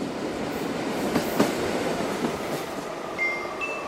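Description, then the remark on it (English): A train pulls away and rolls steadily along with a rhythmic clatter of wheels over the rails, broad rumbling noise throughout and a couple of faint high squeals near the end, no voices. “Gloria settled into her seat as the train pulled away. The gentle chuk-chuk-chuk-chuk rocked her to sleep.”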